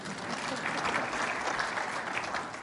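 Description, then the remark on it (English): A room full of people claps steadily for job offer B in a show-of-applause vote, dense overlapping applause at a fairly even level that swells slightly in the middle before easing off toward the end. “And all those who would take job offer B, let's hear your applause.”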